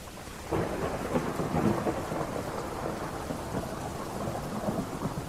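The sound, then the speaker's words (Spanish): A steady wash of heavy rain with deep, rolling thunder rumbling underneath, building after a quiet start and staying loud and continuous throughout, with no voices. “La tormenta.”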